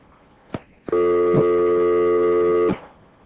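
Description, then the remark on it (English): A radio studio telephone signals an incoming call on line one: two sharp clicks, then a loud, steady electronic tone holding for nearly two seconds before cutting off abruptly. No voices are heard. “So we do have a call coming in again on line one.”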